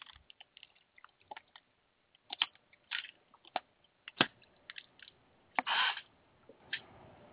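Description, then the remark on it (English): Someone drinks a glass of water, with scattered small clicks, wet mouth sounds and a few soft gulps in an otherwise quiet stretch without talking. “let's go to story number two here, and we'll take a drink of water.”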